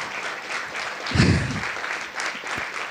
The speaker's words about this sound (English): Can we stand and just clap, as we've seen parliaments all around the world do, for Ukraine?